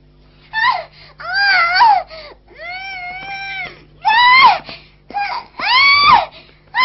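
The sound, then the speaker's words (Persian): A young girl cries and screams in loud, wavering bursts, about six wailing outbursts with short breaths between them, intense throughout. “حالا هر چقدر دلت بخواد جیغ بکش خانم کوچولو، دیگه به مسخره بازیای تو توجهی نمی کنم.”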